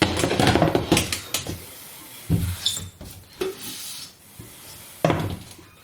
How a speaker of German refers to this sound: Na, ich höre doch da schon wieder eine Tür. Ja, ich höre eine Tür, man hat es schön quietschen hören